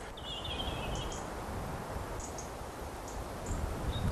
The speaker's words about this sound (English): Gentle breeze through the trees, bit of bird song. I can see why you spend so much time up here.